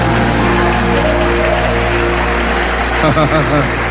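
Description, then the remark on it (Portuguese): An audience applauds the Lord Jesus in a dense, continuous wash of clapping, with voices rising through it toward the end. “Se você crer, diga aleluia e aplauda o Senhor Jesus.”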